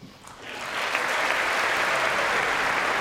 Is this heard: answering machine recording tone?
no